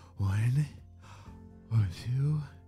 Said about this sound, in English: So, I have to calm down. Eli started to slow down his breathing.